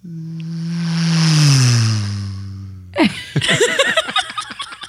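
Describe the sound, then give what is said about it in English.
A voice imitates a car speeding past on a highway: a droning hum that swells, then slides downward in pitch over about three seconds, followed by bursts of laughter. “You want to hear the sound of a car driving by you on the highway?”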